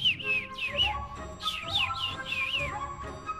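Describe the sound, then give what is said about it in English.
A little bird flying overhead chirps merrily in quick, bright bursts of descending tweets, repeating several times over a soft, steady musical background. “Above them flew the little bird, chirping merrily.”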